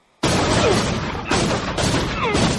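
A gunshot sound effect bursts in abruptly, loud and harsh, then carries on as a dense, rough blast with a few renewed hits, like rapid fire. No voices.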